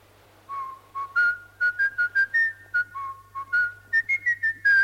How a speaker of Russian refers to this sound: Что ты свистишь? А эту песню поют все люди леса.